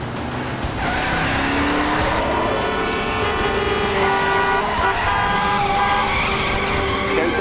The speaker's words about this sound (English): Jack spins his vehicle into oncoming one-way traffic